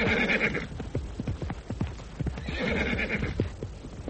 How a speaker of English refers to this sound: Get out of the way! Rein in that horse! Control it! Right! Turn right, for God's sake!